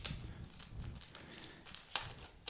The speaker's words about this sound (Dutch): Nee, pak hem meteen uit. Dankjewel. Wat leuk dat ik een verjaardagscadeau kreeg.